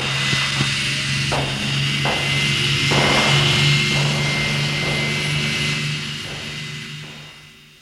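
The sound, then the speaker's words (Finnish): A patrol boat's engine roars at full throttle as the boat sets off, a loud, steady droning growl with a deep humming undertone and rhythmic surges, then trails off and fades near the end. “Nyt ei auta muu kuin täysi jäkä päälle. Liittää lujasti kiinni, tämä lähtee kuin kilpa-auto.”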